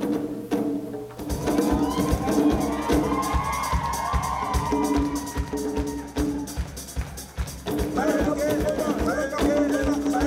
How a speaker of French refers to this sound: Là-bas, au bout du chemin, on entend des tambours, on entend des cris de joie, des chants, des... Il y a des gens qui sont heureux, là.